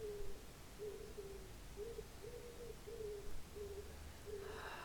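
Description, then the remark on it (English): A wood pigeon coos outside in a soft, repeating run of low hooting notes, fairly faint, with no voices and only a light background hiss. “Allowing any sounds, the wood pigeon outside, the very gentle singing of the leaves, just that they filter in to your hearing with no effort at all, just receiving the sounds.”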